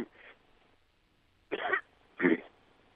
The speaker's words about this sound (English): Well, tell you what, it sounds like you need to cough a little bit. Go ahead and do that.